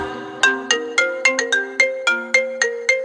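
A mobile phone ringtone plays alone, a bright electronic melody of about ten quick, evenly spaced tones that each strike sharply and fade, with clear harmonic pitches stepping up and down.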